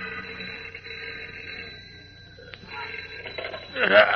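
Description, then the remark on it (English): A telephone rings at night in a deserted newspaper city room, beside a sleepy night telegraph operator, with a steady, sustained metallic tone, a brief pause, then rings again, ending with a louder burst of sound that is fairly clear. “a sleepy night telegraph operator in the deserted Daily Planet City room yawns and reaches for the ringing telephone at his side”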